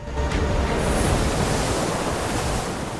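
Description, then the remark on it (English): Ocean waves surge and break on a sandy shore in a continuous, roaring wash of surf, loud and steady throughout with no voices, as a killer whale ploughs out of the waves to grab a sea lion resting in the wash. “Suddenly, a shadow looms above the pair, and in slow motion, a whale ploughs out of the waves, grabbing a sea lion in its jaws as it glides.”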